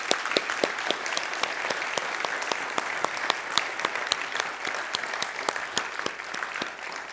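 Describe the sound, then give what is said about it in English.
An audience applauds a team for giving up a week of their summer to go and serve, a dense wash of overlapping hand claps with sharp individual claps popping out, sustained at an even level for several seconds with no talking. “So I wanted to give you guys a chance to applaud these guys for their willingness to give up a week of their summer and go and serve.”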